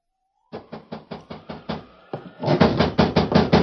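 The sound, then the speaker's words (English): Someone raps steadily on a door one night during a rainstorm, a run of about seven even knocks, a brief pause, then another faster, louder burst of pounding. “Then one night, right in the middle of a rainstorm, there came a knock at the door.”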